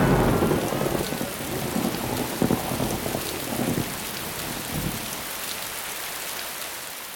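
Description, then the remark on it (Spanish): Steady heavy rain hisses across the whole recording while deep rolling thunder rumbles through the first five seconds, then fades, leaving only the downpour. No voices. “Parece que es una tormenta.”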